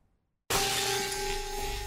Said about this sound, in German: Ja, in meinem Fernseher steckt ein Hammer. Ja, das ist meine Schuld.